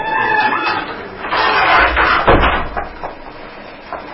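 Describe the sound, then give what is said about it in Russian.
A courtroom door is pushed shut, ending in a single dull, heavy thud about halfway through, with scraping and rustling movement before and after. “Прикрывайте дверь.”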